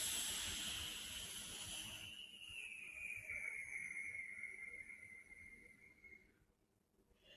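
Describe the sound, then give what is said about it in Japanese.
A slow, drawn-out breath with a soft airy hiss, fading gradually over several seconds, with no talking, as a person breathes in and out during a stretching exercise that opens the shoulder blades. “では、吸って、吐く。”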